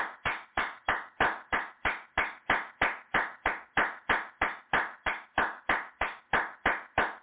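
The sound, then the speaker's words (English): An audience claps hands in praise of the Most High (God) in a steady, even rhythm, roughly three sharp claps per second, loud and continuous throughout with no voices. “Let us give the Most High a hand clap of praise.”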